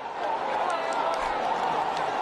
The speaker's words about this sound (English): Several children are believed to have been rescued from the debris. As you can hear, the crowd that had gathered cheered the rescue.